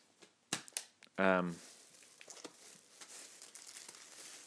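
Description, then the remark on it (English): Crinkly plastic shopping bag rustling as groceries, including yeast, are pulled out and tapped one by one, with a few sharp crackles and taps, followed by softer ongoing rustling and handling noises. “I don't know why I'm tapping everything as it comes out of the bag.”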